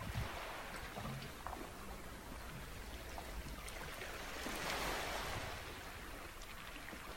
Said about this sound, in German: Und mit dem Rauschen des Meeres entspannst du dich mehr und mehr.